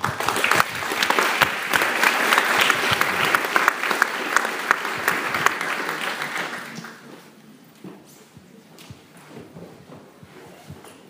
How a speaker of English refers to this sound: Thank you all for being present, and big applause for the artists as well.